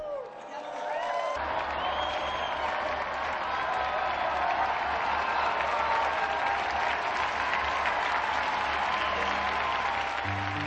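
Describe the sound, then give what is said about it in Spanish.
Sustained, devout applause from a large gathering in honor of Saint John Nepomucene Neumann, steady and dense for about ten seconds, with a low hum underneath and faint murmurs mixed in. “Unidos, pues, a la familia redentorista y a la Iglesia de América, brindemos nuestro devoto aplauso a San Juan Nepomuceno Newman.”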